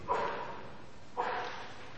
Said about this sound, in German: Ist das ein Hund da hinten oder was? Entschuldigung, ich wollte jetzt niemandem zu nahe treten, aber es hört sich für mich so ein bisschen an.